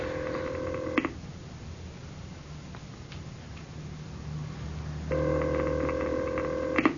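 A telephone ringback tone of an unanswered call placed through an operator sounds twice, a steady buzzing ring lasting about a second at the start and again near the end, separated by a quiet stretch with faint low hum and clicks.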